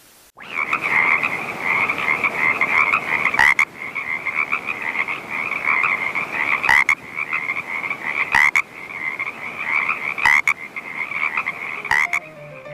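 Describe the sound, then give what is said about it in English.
A dense chorus of tree frogs croaks continuously, a steady bright trilling that fills the whole recording, loud, with no voices, briefly interrupted by a few sharp clicks. “Love the tree frogs. I'm going to play their sound one more time for you.”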